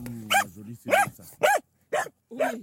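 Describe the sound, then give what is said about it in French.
A happy, excited dog lets out five quick, bright barks in an uneven rhythm, fairly loud, with short pauses between them and no one talking. “Je vais vous faire d'abord écouter l'enregistrement d'un chien qui a l'air très content.”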